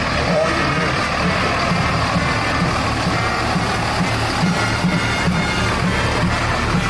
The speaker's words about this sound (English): Here's the Engine 1905 from our Wall Street Fire Department. Thank you, gentlemen.